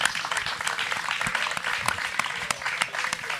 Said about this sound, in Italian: Intanto un applauso speciale per i 50 anni di Amnesty Italia.